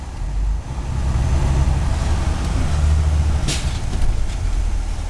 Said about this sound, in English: Langsam fährt unser Bus in die wolkenlose Dämmerung Richtung Norden.